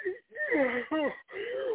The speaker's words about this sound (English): Somebody yawning right now just because I made the sound.